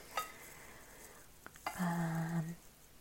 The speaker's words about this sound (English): that's the last piece of tomato cut.